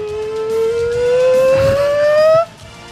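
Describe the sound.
A woman calling the Hogs in an Arkansas Razorbacks hog-calling cheer: one long, loud, siren-like voiced wail that climbs steadily in pitch for about two and a half seconds, then cuts off abruptly.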